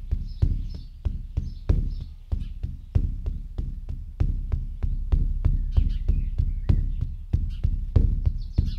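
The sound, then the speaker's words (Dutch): A steady, deep drum beats in a slow, even pulse, each hit booming low like a heartbeat, repeating without pause and with no voices. “Het lijkt op de hartslag van je moeder.”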